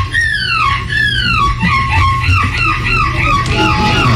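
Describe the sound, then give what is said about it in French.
A seagull cries out again and again, a quick run of loud, shrill calls that each slide downward in pitch, over a steady low hum. “Est-ce qu'on peut réentendre la mouette?”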